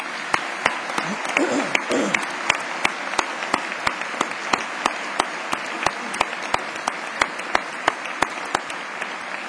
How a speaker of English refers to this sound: I invite the audience to give these graduates a round of applause.